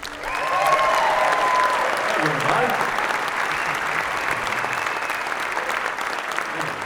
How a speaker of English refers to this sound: How about a little hand for the newest member of the band? He's a bass player.